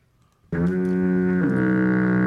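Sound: foghorn sound effect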